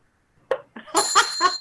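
bell ringing

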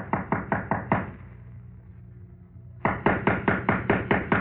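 knock on a door

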